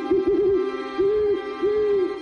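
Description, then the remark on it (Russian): An owl hoots loudly, giving a quick wavering series of calls followed by two long, drawn-out hoots, each a steady mid-pitched tone with slight bends at the ends. “Кричит она громко и протяжно.”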